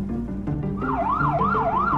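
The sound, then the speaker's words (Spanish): A police patrol car siren kicks in with a fast, rising-and-falling wail, loud, sweeping up and down over the low rumble of traffic as the patrol car overtakes a car and goes on its way. “Un coche patrulla de policía les adelanta y sigue su camino.”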